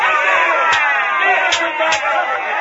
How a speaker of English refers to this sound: And the crowd roared with a frenzy, and the priests of Dagon beat him with scourges.